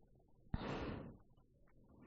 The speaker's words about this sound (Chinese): 喘气儿